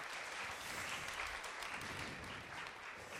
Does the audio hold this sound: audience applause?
yes